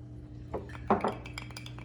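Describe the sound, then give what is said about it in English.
Tequila poured over ice in a glass, heard as a few sharp clinks and rattles of ice against glass, the strongest near the middle, over a steady low hum with no talking. “Pour it over the ice. Let's pour it over the ice.”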